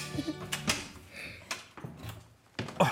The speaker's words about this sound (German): Wartet, die Tür geht auf.